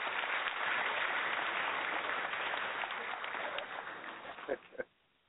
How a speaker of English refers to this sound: Give yourselves a big hand of applause.